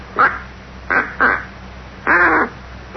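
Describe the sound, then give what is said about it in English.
A duck call blown by someone still learning to use it, in short, nasal quacks: four distinct bursts with uneven gaps, the last one longer and wavering, fairly loud with no talking. “Takes kind of a knack to blowing it.”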